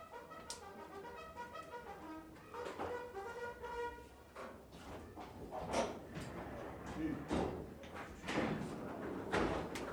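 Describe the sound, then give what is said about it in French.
A door slides and thumps shut amid a cluster of sharp knocks and bangs, with harmonic voice-like sounds and clatter in the background throughout. “Ben, là, ils ferment la porte de l'as, là.”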